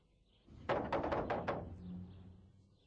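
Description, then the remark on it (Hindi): Five loud, rapid knocks on a house door in an even rhythm, with no one speaking, followed by a faint low hum; a creditor knocking to get a debt paid back. “ए वकीली, दरवाजा क्यों नहीं खोल रहा है, धोखेबाज।”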